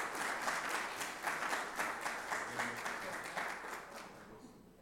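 An audience applauds in a steady burst of many overlapping claps, a dense crackling wash that holds for several seconds and then thins out toward the end.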